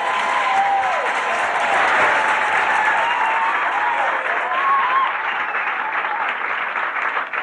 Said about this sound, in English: Let's have a big round of applause.